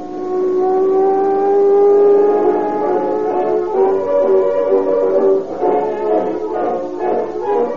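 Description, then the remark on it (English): A patrol car engine drives steadily on a dark road leading to a northern California city, its droning pitch climbing as it accelerates, then settling into a rougher, fluttering rumble. No voices are heard. “On a dark road leading to a northern California city, two police officers in a patrol car are puzzled by the erratic actions of a big sedan traveling ahead of them.”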